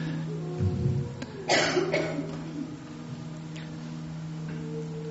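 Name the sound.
cough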